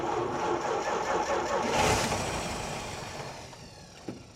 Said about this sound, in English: The engine roared again, but this time it was followed by a series of sputters and chokes. Rusty's engine had flooded, a familiar struggle that Caroline knew all too well.